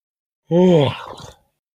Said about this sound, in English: I'm yawning.